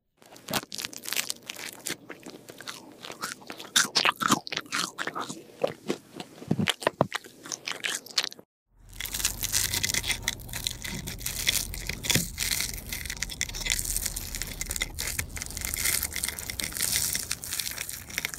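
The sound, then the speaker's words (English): Crunching honey toast being eaten: a run of sharp, crackly bites and chews in irregular bursts, then a short silence followed by a denser, steady crackling crunch without any talking. “That was the sound of me eating honey toast.”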